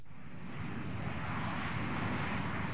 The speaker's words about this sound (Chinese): 第三次，阿爸有飞机 啊！有飞机好出奇咩吓？唉，喺度大惊小怪。 唔系啊，唔系啊，架飞机撞紧埋嚟啊！